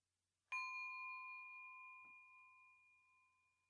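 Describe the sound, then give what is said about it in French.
A single meditation bell is struck once to mark the start of a seated meditation exercise, producing a clear, bright ring that lingers and slowly fades over several seconds in otherwise quiet surroundings. “L'exercice commencera et terminera par un son de cloche.”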